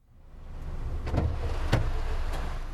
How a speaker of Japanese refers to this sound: それじゃあ、お泊まり旅行で荷物が多いの。トランク開けてくれる？